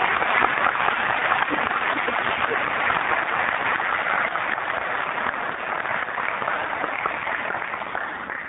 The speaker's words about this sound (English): We know we can do, and we can offer a round of applause for your presence with us tonight.